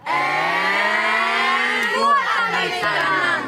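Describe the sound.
A group of scouts from the Falkenstein-Landquart section chants a lunchtime call together in loud unison at the Graubünden cantonal scout summer camp in Sumwitsch, holding long drawn-out syllables before the pitch dips and the shout breaks into a final rising cry.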